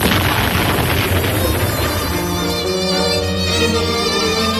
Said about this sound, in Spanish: Pero la escuadra, se sabe, va a levar anclas, una contraseña, un cañonazo en el castillo de Galeras será la señal.